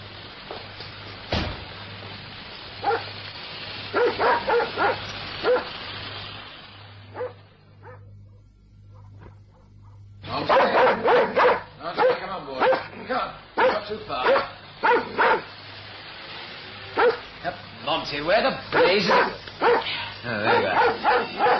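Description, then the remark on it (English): A dog barks repeatedly in quick, loud bursts, falls quiet for a few seconds midway, then resumes barking in rapid, insistent volleys over a low steady hum. “Well, there goes the dog.”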